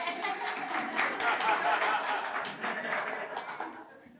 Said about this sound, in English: Come on, turn around and give them some applause, girls.